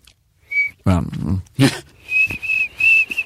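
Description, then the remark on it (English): A person mimics a cricket with their mouth, a few high, thin chirping whistles in short repeated bursts, broken up by wet clicks and breathy mouth noises between them. “I taught Anne Bancroft to make a cricket sound, which goes on.”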